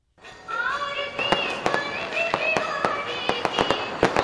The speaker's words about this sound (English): Music and fireworks kick off the Indian holiday of Diwali, a five-day celebration when Indians shower each other with gifts.